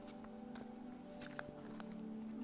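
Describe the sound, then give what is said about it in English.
A deck of angel cards being shuffled for an angel card reading, with soft papery flicks and brief crisp bursts at uneven intervals over a steady low electrical hum. No one speaks. “So you're going to hear probably me shuffling.”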